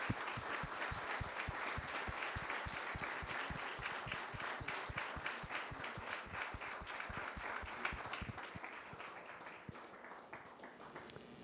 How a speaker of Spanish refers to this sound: a todos nosotros un fuerte aplauso para él, muchas gracias.